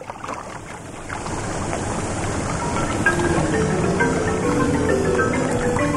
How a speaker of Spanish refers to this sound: ¿De dónde salió este río? ¡Ay, ay, ay! ¡Me lleva la corriente! ¡Ay! ¡La tina parece canoa!